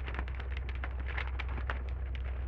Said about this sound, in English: Quit rattling that paper. This is the sad part.